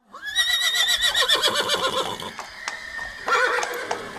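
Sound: horse neighing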